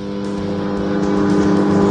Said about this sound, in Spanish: Entonces, ¿qué es el ruido? El avión del JCI que está aterrizando. No, el ruido del microondas, que me estoy calentando comida.